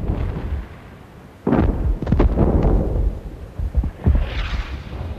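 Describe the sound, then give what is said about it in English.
Deep, rumbling booms roll in from far away along the horizon at night, a low sustained rumble broken by several heavier thuds and crackling bursts, a distant barrage of explosions flaring in stark white light, with no voices. “Miller's squad passes in single file, silhouetted by the flickering explosions.”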